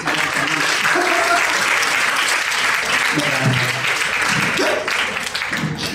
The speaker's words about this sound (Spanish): Un aplauso.